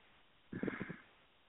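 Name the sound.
snoring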